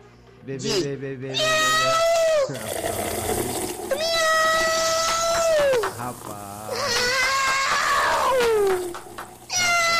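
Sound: cat meowing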